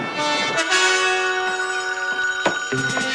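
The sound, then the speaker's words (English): A telephone rings in General Bleeker's bedroom and he answers it from bed. It has a bright, sustained tone broken by short gaps, loud, with no one talking. “Now, General Bleeker answers the phone from bed.”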